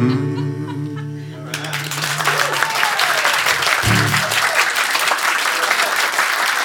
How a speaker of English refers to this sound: Thank you. Thank you very much. Thank you for clapping.